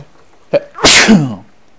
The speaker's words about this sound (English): Excuse me. Had a bit of a sneezing fit there for a second.